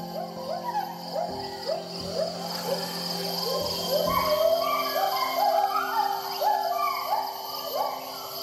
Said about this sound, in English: If Topher White has his way, future generations will be able to hear the fulsome songs of gibbons echo through healthy forests in Borneo, and not just in speakers and headphones.